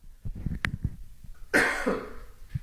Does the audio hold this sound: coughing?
yes